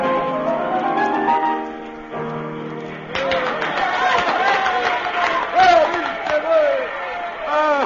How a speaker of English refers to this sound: The cafe is filled. Everyone is shouting for more.